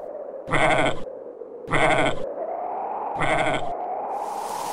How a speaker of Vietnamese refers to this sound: Trời, sao trong hang lại nhiều dê như vậy? Đúng là trời giúp ta rồi, tự nhiên lại mang cho ta một bầy dê béo nút thế kia.